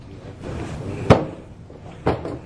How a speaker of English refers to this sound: So, through obedience, through the instruction, if I tell you to reach back and turn that chair around, you can sit in it, right? That's correct. Go ahead and reach back there and turn that chair around.